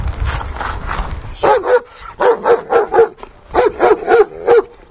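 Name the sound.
police service dog barking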